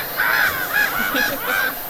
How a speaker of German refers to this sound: Pass auf, wo sind die Möwen? Wo waren die Möwen? Genau, wo waren die Möwen? Um es für uns ein bisschen heimischer zu machen. Hör mal, hörst du sie?